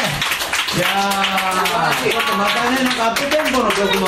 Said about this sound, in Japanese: 拍手をお願いします